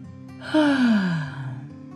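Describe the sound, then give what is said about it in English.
A single drawn-out yawn from a tired little red plane, starting with a breathy intake and sliding down in pitch as it fades, over a faint, steady background hum. “Beyond the last of the crowd, Hawk yawned.”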